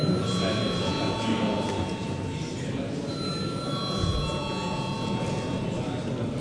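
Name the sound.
parliament chamber bell ringing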